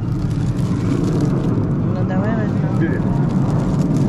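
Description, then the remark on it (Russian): A steady, loud engine roar from an airplane overhead fills the whole stretch, a continuous deep rumble with no breaks, with faint voices briefly audible beneath it. “Так, что там гремит? Самолет летит, мотор работает.”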